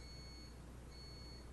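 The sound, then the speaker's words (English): A coffee maker gives faint, high-pitched electronic beeps as it shuts off: two long, steady tones separated by a short pause, with no one talking. “That's the coffee maker shutting off.”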